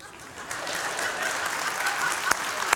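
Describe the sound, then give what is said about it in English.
Steady audience applause welcoming newcomers to a service, a dense wash of many hands clapping at moderate volume, with a few sharper individual claps popping out near the end. “We're so hospitable. We'll clap for you.”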